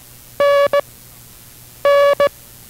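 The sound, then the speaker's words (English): A buzzy Morse code tone in a lesson on the International Morse Code sends the letter N, called Nan, a long dash followed by a short dot, twice with a pause between, over a faint background hum. “We will continue instruction in the rudiments of the International Morse Code following station identification.”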